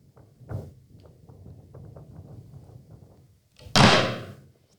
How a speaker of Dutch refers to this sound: Daar zijn onze helden. Ik zie dat de deur van de raket opengaat. Ik zie één astronaut naar buiten komen.